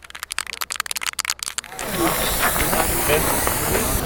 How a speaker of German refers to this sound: Mitten auf dem Schulhof. Der Schule am Tierpark sprüht ein Lehrer auf den Boden mit Kreidespray den Satz Ich stehe auf.